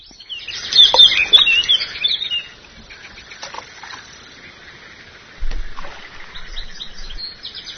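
Small birds chirp and twitter busily in the open air by the Danube at the village of Begeč near Novi Sad on a Sunday morning, a dense burst of high tweets early on that thins into scattered calls, with faint low rumbling later; no one speaks.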